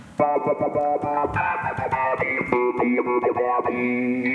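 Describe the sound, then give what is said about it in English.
Electric guitar run through a filter and volume effect controlled by small resistive touch strips on the face of the guitar, tapped to chop its sustained notes into quick rhythmic stutters with shifting tone, fairly loud with no voices. “And so I have that assigned to like a filter and the volume, so I can just tap this thing.”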